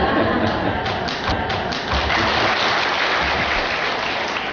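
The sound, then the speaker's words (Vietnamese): A steady, dense hiss of rain pours down continuously during a Buddhist dharma talk, fairly loud, with scattered heavier patters and faint murmuring voices underneath. “Và lần nào cũng vậy, trời mưa, phải không?”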